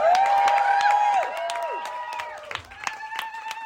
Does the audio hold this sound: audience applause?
yes